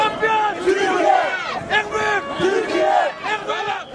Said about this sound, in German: Während die Schweizer Fans fast fluchtartig das Stadion verließen, übernahm die deutlich kleinere Gruppe der türkischen Fans das Zepter. Autokorsos setzten sich in Gang. In der Basler Innenstadt fanden spontane Jubelfeiern statt.